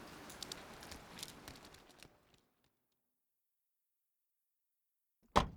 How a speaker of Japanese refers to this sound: 今なんか 雨だ。まあこのくらいなら。 げっ、めちゃくちゃ降ってきた。 駐車場まで走れ。